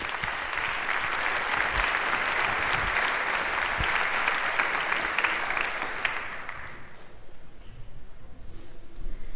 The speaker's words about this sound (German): Einen Runde Applaus bitte.